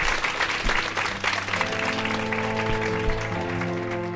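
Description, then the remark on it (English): A crowd applauds steadily for the guests at the end of an event, a dense wash of clapping, while sustained musical tones rise underneath as an outro tune begins to play. “Please give a round of applause for your amazing guests.”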